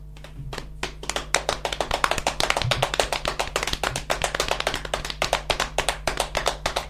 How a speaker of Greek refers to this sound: Και πάμε να χτυπήσουμε το στήθος μας, γιατί μπορεί να ακούγονται και μπουμπουνιτά από μακριά. Να χτυπήσουμε τα γόνατά μας.